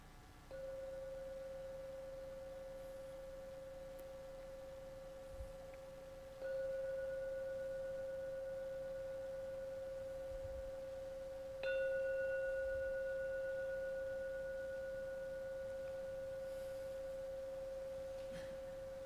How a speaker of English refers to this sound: So I'm now going to ring the gong three times. Please let the sound of the gong slowly take you out of meditation. So the third ringing of the gong is the time you open your eyes.